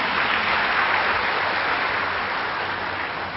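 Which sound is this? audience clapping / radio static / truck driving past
audience clapping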